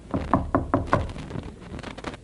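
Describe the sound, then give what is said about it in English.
Knuckles rap on wood in a quick, evenly spaced run of about five solid knocks, followed by a few softer, fainter taps as the sound trails off. “Ever hear someone say, knock on wood?”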